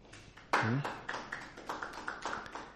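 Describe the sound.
An audience claps steadily, a dense patter of hand claps that starts abruptly and carries on at moderate loudness, with a short voiced shout rising over the applause near the start.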